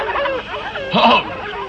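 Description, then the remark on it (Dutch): A dog at the Karel Kamperman dog kennel in Sneek gives a single short bark partway through, over a steady murmur of background sound. “Oh, ze hebben een hond geloof ik, als ik het goed hoor.”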